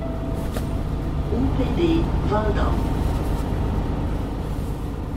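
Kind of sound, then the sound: vehicle, bus ride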